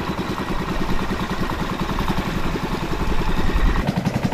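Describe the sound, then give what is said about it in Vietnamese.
A small boat engine chugs steadily, loud and continuous with a rapid putt-putt rhythm that swells slightly toward the end, with no voices; boats bustle across flooded fields at dawn in flood season as villagers go out to set fish traps. “Xuồng ghe bắt đầu nhộn nhịp tấp nập trên đồng.”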